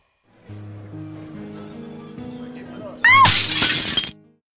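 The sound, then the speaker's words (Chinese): A low, steady hum gives way to a sudden loud crash of a ceramic plate smashing, its bright shattering clatter ringing for about a second before cutting off. “我是只兢兢业业了一辈子的盘子，所以我刚一摔碎就看见了天堂天使的召唤。”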